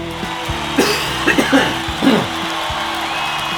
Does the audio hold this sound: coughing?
yes